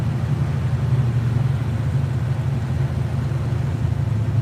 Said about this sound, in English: It's many years old, but it's a great engine, really great. Right now is the hottest it's ever run. It always runs cool.